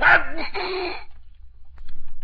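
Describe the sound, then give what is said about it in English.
A single loud, sudden sneeze from a person with a cold bursts out at the start, a sharp breathy blast with a voiced tail that fades after about a second, followed by quiet low rumble. “Who sneezed?”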